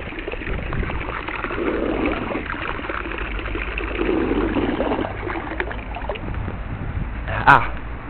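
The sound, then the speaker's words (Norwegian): Water runs steadily from an outdoor tap, a continuous rushing hiss with a short, sharper splash near the end. “Jeg fant en kran. Et sted jeg kan fylle vann så mye jeg vil.”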